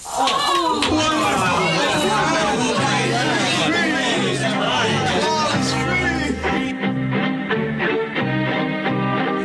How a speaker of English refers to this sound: That cheering right after the trial. Who was it and why? My dear Nero, those were Christians cheering for their champion whom you let go free to influence more people to become Christians and your enemies.